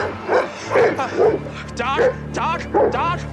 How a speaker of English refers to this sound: But when Harrison, played by Albert Rutecki, comes across a barking dog...